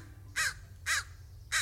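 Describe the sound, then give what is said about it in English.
A crow caws three times in a steady rhythm, each call harsh, rasping and fairly loud, with short pauses between them and only faint background noise. “They're crows. Or ravens. No, definitely crows.”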